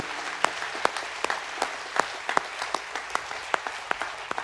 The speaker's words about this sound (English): Let's give them a round of applause, you guys.